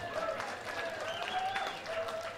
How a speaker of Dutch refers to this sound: Applausje voor mezelf.